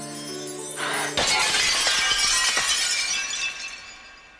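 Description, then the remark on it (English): Glass shatters with a sudden loud crash, followed by a bright spray of tinkling shards that scatter and fade over a few seconds, preceded by a brief sustained tonal hum. “It probably means that she can take no risks whatsoever in the world, because if she does bump into anything, she will break and she will become a terrifying tangle of flesh and glass.”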